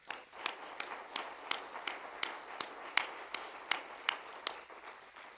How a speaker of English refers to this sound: Could we clap our hands to him?